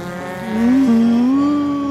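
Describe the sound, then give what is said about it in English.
A race car engine howls on a racetrack, its whining pitch climbing and swelling louder as it speeds past, with no voices over the roar. “This layer of the Earth has a robust racing scene. Look out the window.”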